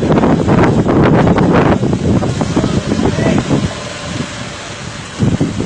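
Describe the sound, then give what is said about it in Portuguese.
Strong wind roars and buffets the microphone in loud, continuous gusts during a dust storm in Riacho do Meio, Pernambuco, with a low rumble throughout and muffled voices faintly underneath, easing slightly toward the end. “Nuvem de poeira toma conta agora em Riacho do Meio.”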